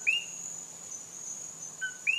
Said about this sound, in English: Kochi frogs. They're named for the sound they make.